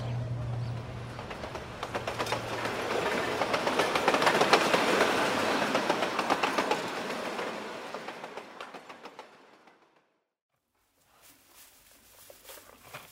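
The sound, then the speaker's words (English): A park train rumbles along the tracks with a steady clickety-clack, swelling loud as it passes, then fading out, followed by a brief quieter stretch of rail noise. “We can catch the train.”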